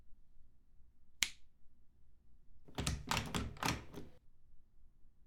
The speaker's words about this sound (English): I locked the door and reinforced it with magic. He wouldn't even be able to get past it with the wrecking ball now.